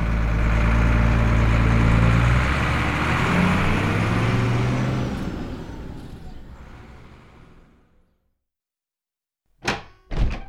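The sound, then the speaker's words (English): A bus engine rumbles loudly at idle, then pulls away into town and fades out, leaving silence before two sharp thuds at the end. “And he got on the bus and went into town.”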